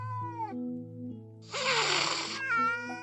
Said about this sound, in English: When they're scared or angry, kittens hiss, puff out their fur, and arch their backs to make themselves look bigger and scarier.